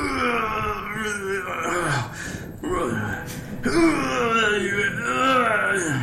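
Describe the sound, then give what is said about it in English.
A voice imitates someone straining, a sound heard from inside a room behind a door, about 5 feet into the room, letting out long, wavering groans and moans in two drawn-out efforts with a brief catch of breath between, loud and continuous, with no other talk. “It sounds like someone straining against something.”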